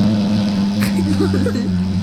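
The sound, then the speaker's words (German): A voice imitates snoring the way other people imitate it, not like in a comic film, with a loud, continuous low rasping drone. The pitch wavers slightly as it holds steadily for about two seconds without a pause. “Das heißt, ich kann das auch nur so nachmachen, wie das andere Leute nachmachen.”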